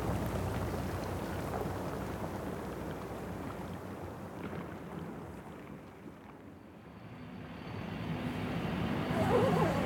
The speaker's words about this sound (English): With each boom and crack, a bit more of Greenland's ice falls into the sea. And those snaps, and those pops, that's the sound of it melting.